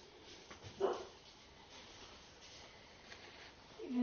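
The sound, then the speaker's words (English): A dog gives a short bark-like yelp, then goes quiet before a brief whining whimper at the very end, both fairly faint over a low background hiss. “Even the dog agrees.”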